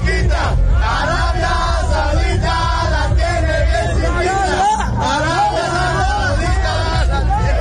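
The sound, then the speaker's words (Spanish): A loud crowd of Mexican football fans in Qatar chants a new battle cry together in unison, around a Mexico versus Saudi Arabia match, many voices rising and falling in a sustained, rhythmic cheer that fills the whole clip with dense babble underneath. “¿Quieren saber cuál es el nuevo grito de guerra de los aficionados mexicanos en Qatar?”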